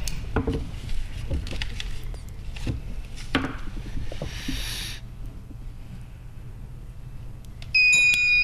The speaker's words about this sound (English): Oops, whoever buzzed in, try it once more.